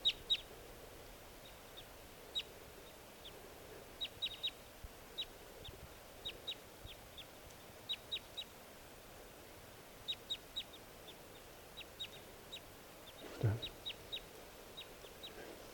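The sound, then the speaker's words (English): Wild birds perched in the tops of lodgepole pines above a net call over and over in short, sharp, high-pitched notes, often in quick pairs or clusters, fairly faint against a steady low background hum. “Not really showing too much interest in coming down, although the fresh decoys are calling more now.”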